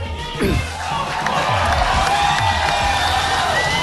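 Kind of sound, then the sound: crowd, crowd applause and cheering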